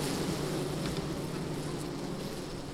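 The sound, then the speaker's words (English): A dense, steady hum of many honeybees buzzing inside an open hive, recorded with a microphone right next to the hive, a continuous droning swarm with no talking. “I'm going to put my microphone right next to the hive so you can all hear these bees.”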